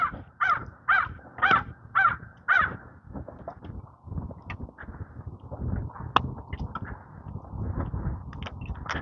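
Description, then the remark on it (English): A crow caws five times in quick, evenly spaced succession, loud and harsh, then falls silent as scuffing outdoor noise carries on during a morning walk past a park. “Oh, there goes the crow.”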